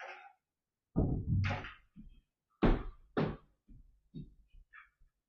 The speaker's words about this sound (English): I'm just going to shut this door as well.